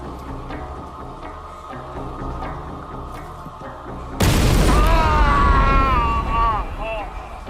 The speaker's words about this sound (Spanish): La explosión lo hirió de gravedad y le arrancó los dedos.